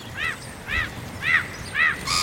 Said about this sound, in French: On entend les mouettes, là, effectivement. Dans Paris, vous avez deux oiseaux de la famille des laridés, qui sont la mouette rieuse et le goéland argenté.